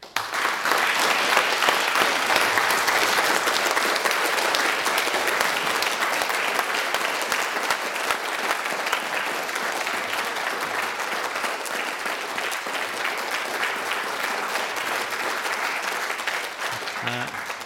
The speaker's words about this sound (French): J'aimerais participer aux applaudissements du public.